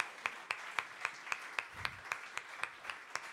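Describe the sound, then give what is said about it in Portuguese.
An audience in Évora applauds on a January night, in a steady, even rhythm: about a dozen sharp, crisp claps at a quick regular pace, moderately loud, with no voices over them. “e só pelo facto de conseguirmos estar juntos num espaço tão maravilhoso como este, acho que merecem uma belíssima salva de palmas.”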